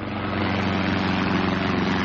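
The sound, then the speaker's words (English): A steady, droning aircraft engine with a low propeller hum, loud, holding an even pitch throughout as a plane flies low through mist over the countryside between Hatfield and Welling, just outside London, coming in to land; no voices. “A plane flying through the mist which shrouded the countryside between Hatfield and Welling, just outside London, and coming into land.”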